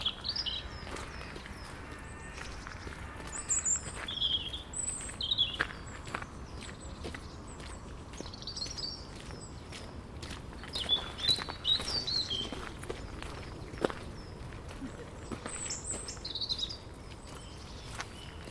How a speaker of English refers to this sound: Just one little bird in the tree right in front of me. That's all it is.